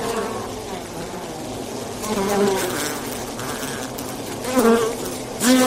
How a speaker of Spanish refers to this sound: Si has pensado en abejas, estás en lo cierto, porque la primavera, además de traernos alergias, también nos trae proliferación en pequeños enjambres de abeja que de repente se anidan en cualquier lugar.